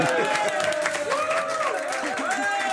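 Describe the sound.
An audience applauds in a steady, dense wash of clapping that holds at an even level throughout, with voices and cheers rising and falling within the crowd noise.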